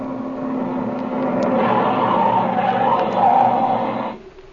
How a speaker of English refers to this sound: Hey, there comes a car now, Speed. And boy, he's sure traveling, too. Yeah. Yeah, I guess that's the sheriff, all right.